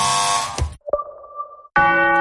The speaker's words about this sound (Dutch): Hoor je dat? De klok zegt dat het tijd is voor de borrel.